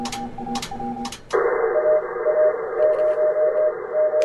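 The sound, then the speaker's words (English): Morse code beeps sent over ham radio from a studio: a steady high tone keys on and off in short and long bursts through a band of hiss, after a brief stretch of clicking and humming. “He works as the league's emergency preparedness and response manager, and he's sending out Morse code signals.”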